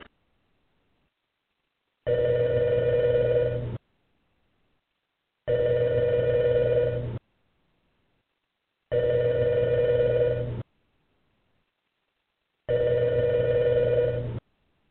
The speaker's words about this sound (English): Don't answer that phone because it's the Halloween special of WPR Rebuttal, bringing you the perspectives that the UW Board of Regents won't allow you to hear on their Wisconsin Public Radio.